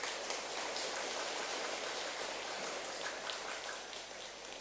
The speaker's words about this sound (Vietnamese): Rồi, cho một tràng vỗ tay thật lớn nào.